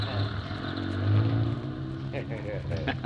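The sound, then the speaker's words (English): A heavy moving-van engine revs as the van, turned around, starts rolling, its low droning pitch climbing as it pulls away, with muffled voices faintly underneath. “his van turned around. I guess we can start rolling.”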